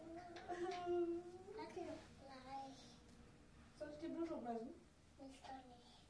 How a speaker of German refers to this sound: Nicht weinen.